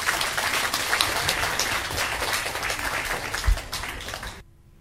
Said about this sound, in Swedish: Men jag tror vi gör så här, vi börjar med att ge de här fantastiska dansarna på Sigtuna dansskola, mina seniorgrupper, en varm applåd, för nu kör vi igång.